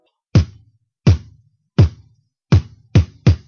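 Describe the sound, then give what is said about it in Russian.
Six punchy beatboxed kick drums, each made by pressing the lips together and saying an unvoiced 'P' so air pressure bursts from the lips, each a sharp thump with a short low tail, spaced unevenly and speeding up toward the end. No talking. “И самое простое, что нам нужно сделать, это просто сказать букву «П» без голоса. Так, чтобы давление выстрелило из ваших губ, как пиратская пушка или как петарда.”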